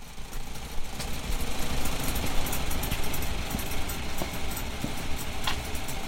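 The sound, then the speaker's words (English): An old Farmall Model A farm tractor engine runs steadily on a farm, recorded on an iPhone: a continuous rough, low chugging rumble with occasional faint clicks and knocks, no voices. “he had an old Farmall Model A on his farm and would be happy to record it for me.”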